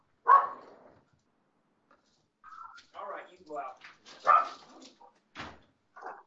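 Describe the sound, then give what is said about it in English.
A dog barks repeatedly, a loud sharp bark first, then a string of irregular barks and yips, with brief pauses between them and no voices. “That was Toto the Wonder Dog.”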